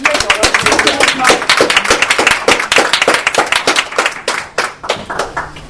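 An audience at the end of Alternativet's talk show evening applauds the participants with a dense, steady patter of many hands clapping together, fairly loud at first, then thinning out into fewer, more separate claps toward the end.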